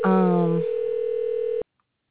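A steady electronic telephone tone drones for about a second and a half, then cuts off abruptly into silence, like a single ring signal heard on the line during a call.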